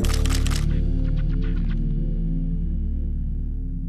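A camera shutter fires in a quick burst, followed by a few more sharp clicks in rapid succession, all over a steady low mechanical hum.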